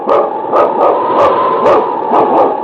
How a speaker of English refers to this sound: It's King, swiftest and strongest lead dog of the North Country, blazing the trail for Sergeant Preston of the Northwest Mounted Police in his relentless pursuit of lawbreakers. On King! On, you husky!